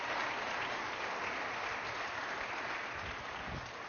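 A church audience claps their hands in praise in a dense, steady burst of applause, the many overlapping claps blending into a continuous wash that stays loud for the whole stretch.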